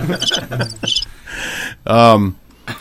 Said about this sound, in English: All awkward pause there. So I always have the crickets just in case, you know.